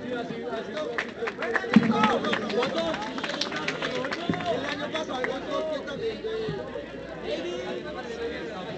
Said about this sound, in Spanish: Un aplauso.